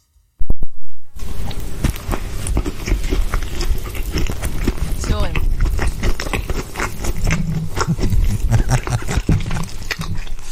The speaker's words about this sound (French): Voilà, vous avez entendu des bruits de bouche.